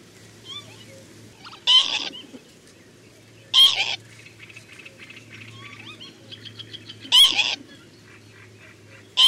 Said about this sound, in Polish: Jeśli jednak drapieżnik odnajdzie prawdziwe gniazdo, ptaki zaczynają go atakować i odzywają się bardzo ostrymi, wybuchowymi sylabami.